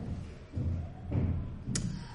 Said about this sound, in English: The barbarians are stamping their feet in the next room.